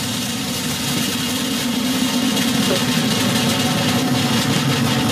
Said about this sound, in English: How fantastic to see Vega C roaring across that equatorial sky. Yet again, one can't take one's eyes off it. It's so impressive, like a boil of light rumbling across the jungle.